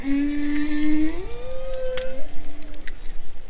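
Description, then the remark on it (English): Bottlenose dolphins underwater off the coast of Florida: a long, steady whistle that climbs in stepped glides and then drops, with bright overtones, scattered sharp clicks, and a faint hissing background throughout. “Then, of course, bottlenose dolphins off the coast of Florida.”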